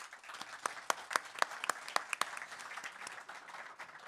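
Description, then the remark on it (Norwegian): An audience applauds Thomas Dahle and Solfrid Hetle, with a dense patter of many hands and several sharper, louder claps near the start, then settles into steady clapping at moderate volume. “Applaus til Thomas Dahle, Solfrid Hetle fra båten.”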